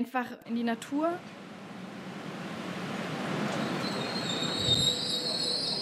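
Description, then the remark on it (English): A brief voice opens, then the steady rumble of a train from Asker to Oslo, Norway builds, and high, thin metallic squeals of wheels grinding on rails ring out over it, sustained toward the end. “From Asker, it takes about an hour and a half by train to get to the capital, Oslo, to the headquarters of Norwegian People's Aid, or the NPA, which runs the asylum accommodation.”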